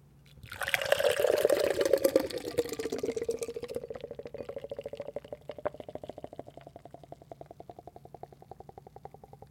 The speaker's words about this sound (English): What did you just pour into that glass? Well, if your ears know a nitro beer, then you would have heard that's what it indeed was. So it was not a Guinness